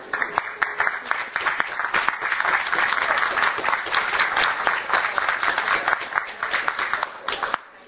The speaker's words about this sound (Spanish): En ese sentido, yo voy a pedirles a todos un aplauso para el stand.